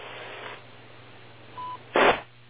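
A short, steady DTMF control tone sent to a radio repeater for Echolink sounds over low radio hiss and a constant hum, followed by a sudden loud burst of static. No one speaks.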